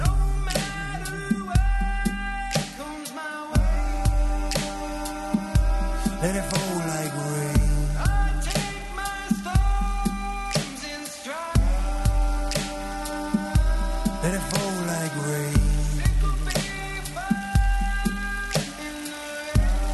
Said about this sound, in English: If you're joining us before May 14th and you enjoyed that song that we just listened to